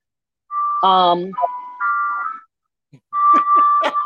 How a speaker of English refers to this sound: I can't with ice cream truck. I'm trying to talk just, over the ice just cream. Flag them down. Just flag them down and get a snow cone or an ice cream sandwich or something, and they'll go away.